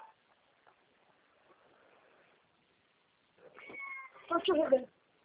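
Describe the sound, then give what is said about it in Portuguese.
A female cat sitting on a person's lap meows loudly in a drawn-out, wavering cry near the end, preceded by a fainter mew, after a stretch of quiet murmuring and soft background noise. “Você tira essa gata do seu colo.”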